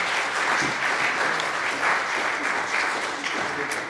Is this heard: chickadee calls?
no